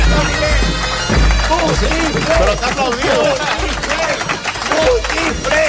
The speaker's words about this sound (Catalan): Tu, però t'aplaudiu.